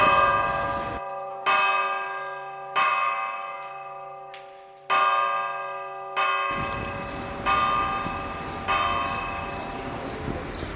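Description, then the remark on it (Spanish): Church bells ringing the call to confession: a steady series of loud, resonant strikes about every one to one and a half seconds, each tone ringing on and overlapping the next, with no voices. “Ese es el toque a confesión, uno de los múltiples toques de campanas”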